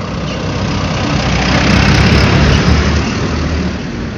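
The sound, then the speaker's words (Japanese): A car drives past on a street, its broad engine and tire rumble swelling to a peak midway and then fading slightly, with no one speaking. “ちょっと今車通り過ぎるから音待とうか。”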